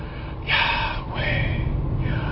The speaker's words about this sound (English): I feel like there's something in the breath, the breathing.